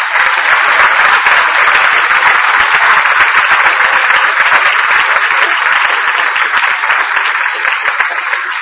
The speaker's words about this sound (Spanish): Por cierto, ¿por qué no dar un aplauso a la memoria de Juan Pablo II?